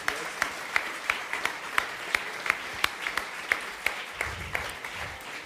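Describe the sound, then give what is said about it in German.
Audience applause: a steady wash of clapping with sharp, evenly spaced claps standing out about three times a second, moderately loud and continuous, with a brief low murmur near the end. “Also das ist ein riesen Applaus, bitte.”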